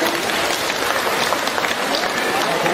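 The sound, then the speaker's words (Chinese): Sustained audience applause thanking Lu Junhong: a dense, steady wash of many hands clapping at an even loudness throughout, with no distinct voices standing out. “让我们用掌声感谢慈悲的卢金红台长。”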